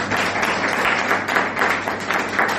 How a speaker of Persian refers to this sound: خب درخواست کنم خودتون تشویق کنیم.